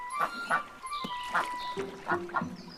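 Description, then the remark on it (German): A duck that has picked up a piece of food packaging quacks several times in short, nasal bursts at an uneven pace, clear, with faint background noise between the calls. “Was hat die Ente da?”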